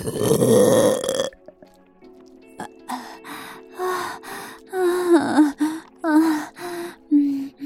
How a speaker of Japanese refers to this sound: おちんちんを入れられながらゲップするの、すっごく変態だよね。